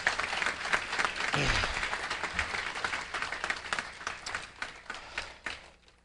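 A crowd bursts into a round of applause for the event's sponsors, including New Hyde Park Baptist Church. Dense overlapping claps form a steady, loud wash that gradually thins and softens over several seconds, with a few murmuring voices underneath.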